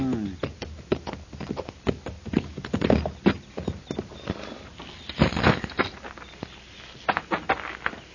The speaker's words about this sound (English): Well, then who's that boy in the corral yonder feeding his horses?